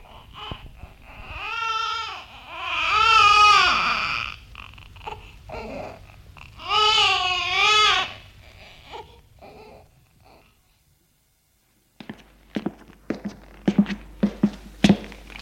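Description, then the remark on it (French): A baby cries in long, wavering wails, pausing between bursts, then quiets. Scattered taps and knocks follow near the end. “Et heureusement qu'elle a le bébé à s'occuper.”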